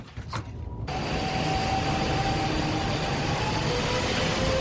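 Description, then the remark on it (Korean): A train departing Seoul Station rumbles into motion after a brief quiet moment. A steady loud roar of wheels and carriages runs with a thin motor whine through it, and there are no voices. “그런데 서울역에서 열차가 막 출발할 때 소동이 일어납니다.”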